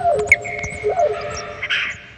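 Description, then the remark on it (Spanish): An owl hoots in a few drawn-out, wavering tones that rise and fall, set against a soft, steady nighttime hum with no one talking. “búho, pues era la clave para poder salir de sus cuevas y andar merodeando por ahí.”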